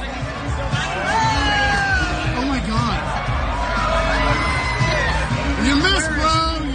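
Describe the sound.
A golf crowd standing around on the 17th green whoops and cheers while watching a naked man, with loud overlapping shouts, laughter and babbling voices rising and falling throughout, steady and dense from start to finish.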